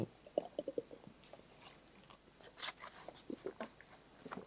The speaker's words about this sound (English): I'm taking a sip of water.